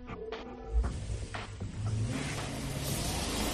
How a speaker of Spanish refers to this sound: Bueno, esos son los sonidos de motores que también hablamos aquí en la cadena COPE de Málaga en el Tiempo para el Deporte, porque el Campeonato Provincial de Automovilismo, Trofeo Diputación de Málaga 2021, arranca mañana en Casa Bermeja.